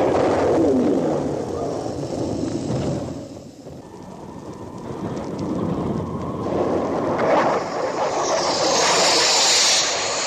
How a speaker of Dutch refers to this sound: dat is de raket die wegstuift. Maar ze hadden natuurlijk nog helemaal geen idee hoe dat echt zou klinken. Ze wisten totaal niet hoe het geluid van een raket zou klinken.